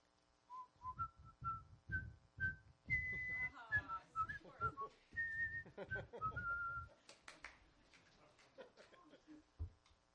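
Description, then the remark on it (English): Someone whistles a lively, melodic tune, with quick rising and falling notes in a steady phrase lasting several seconds, ending in quieter scattered tones. “And so I was wondering if you could whistle something in French.”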